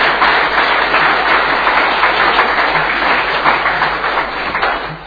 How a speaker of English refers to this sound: Then we'll go straight to a vote. All those in favour? Carried unanimously. Thank you. You may applause again. Applaud again if you wish.